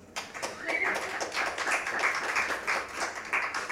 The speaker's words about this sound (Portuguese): Uma salva de palmas